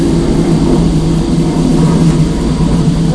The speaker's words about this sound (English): More noise. More noise, yes. There's an aeroplane going over her head, isn't there?